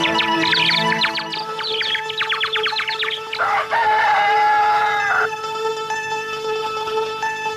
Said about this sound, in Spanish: Eso es un gallo que canta.